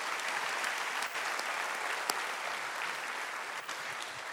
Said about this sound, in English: If you got a certificate, stand. Wonderful. Give these folks a big round of applause.